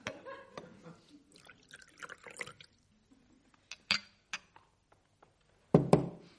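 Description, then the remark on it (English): Port is poured into a glass, with a few sharp glassy clinks and short splashy bursts separated by quiet pauses, ending in a louder gurgling pour. “Now, maybe a glass of port.”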